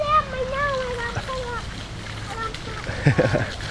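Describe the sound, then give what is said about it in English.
A pest control sprayer sprays a microencapsulated treatment against carpenter ants, 3 feet up and 3 feet out: a steady hiss of liquid spraying runs through the whole stretch, with a brief splashy burst near the end. Voice-like sounds rise and fall over it. “We spray 3 feet up and 3 feet out with a spray.”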